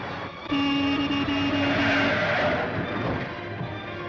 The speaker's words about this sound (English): Nighttime in Los Angeles. A traffic light turns red and a car speeds through it.